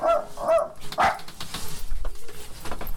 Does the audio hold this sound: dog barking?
yes